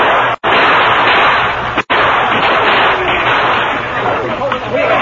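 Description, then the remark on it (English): Loud, relentless gunfire as Apaches attack a stockade and defenders fire back from it merges into a dense, continuous roar with voices mixed in beneath it, broken by two very brief drops to silence. “Constant gunfire, the wagon was hurriedly pushed into the stockade, and the gates were closed.”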